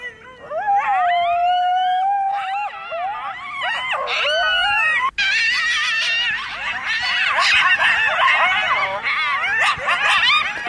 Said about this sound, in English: And then you start hearing these noises. And you hear them right outside as well. These were like, these coyotes were right outside the hut.